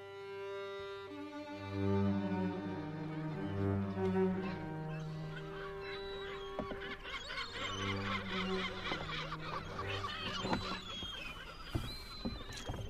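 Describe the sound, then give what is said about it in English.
Gulls call in a busy, overlapping chorus of shrill squawks and cries, rising out of a steady low droning tone that fills the opening seconds; no one speaks. “They're only owl gulls. Yes, but what kind of gulls?”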